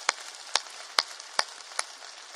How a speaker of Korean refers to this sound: 여러분, 진짜 이 저출산 시대에서, 여러분, 결혼해서 애 낳고 키우는 여러분 젊은 세대들, 여러분, 박수 쳐줘야 돼요, 진짜. 우리 한번 박수 세게 쳐줍시다, 여러분.